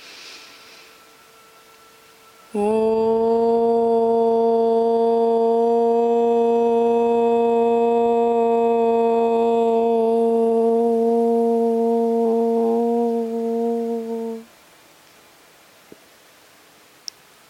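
A single long chanted Om, vibrated through the whole body, one steady, resonant low hum held at an unchanging pitch for about twelve seconds, loud and alone, then cutting off into near silence.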